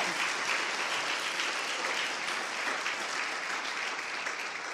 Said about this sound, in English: Vamos, dale un fuerte aplauso a Dios. Give a strong applause to the Lord.